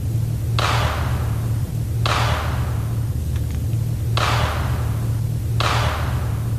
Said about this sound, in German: Ja, wir haben es jetzt viermal gehört, dieses Klatschen, das waren die Polarlichter. Aber was klatscht denn da oder wer?